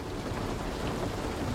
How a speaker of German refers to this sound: Das monotone Prasseln des Regens begleitet dich stetig und beständig.